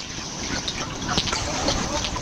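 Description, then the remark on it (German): Bubbles of gas rising and burbling underwater in a small lake in the Mittelland on a warm summer evening, a steady soft gurgling with small brighter pops scattered through it over a muffled, rumbling background. “Da blubbern Gasblätterli.”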